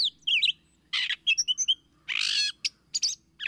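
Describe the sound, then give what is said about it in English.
A gray catbird sings a jumbled, varied string of short phrases: squeaky whistles, harsh raspy bursts and quick chips, each different from the last, with brief gaps between them and no talking. “Gray catbirds are improvisers in the foods they eat and in their ever-changing songs.”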